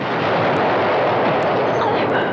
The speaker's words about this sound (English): They're both blown to the ground when the piñata explodes.